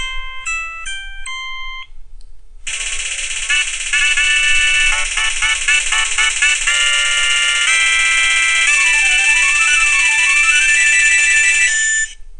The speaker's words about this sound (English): So now we're going to push the right and left arrow keys and find a ringer for Tell Me. That's one of the ringers that comes with a phone.